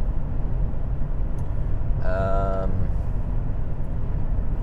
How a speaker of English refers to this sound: So I'm actually on the freeway at the moment in the spy car.